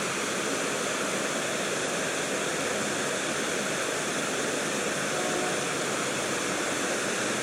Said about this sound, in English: Another fountain on our left, and then we got a waterfall here on our, well, in front of us now. It was on our left. Nice waterfalls.